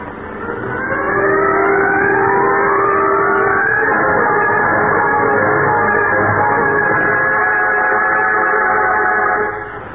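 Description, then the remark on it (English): A car engine revs up and accelerates hard, its whining pitch climbing steadily for several seconds, loud, before cutting off near the end. No voices are heard. “Step on it.”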